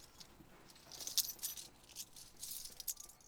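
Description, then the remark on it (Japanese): Keys jingle and clink in a few quick bursts over about three seconds, bright metallic rattling at moderate volume, with no voices. “こいつさ、 今日は鍵ある？”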